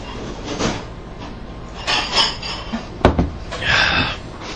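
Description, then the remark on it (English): Dishes clatter and clink in irregular bursts over a steady wash of running noise, with one sharp knock near the middle, moderately loud. “Where a hole is, Alec? The dishwasher?”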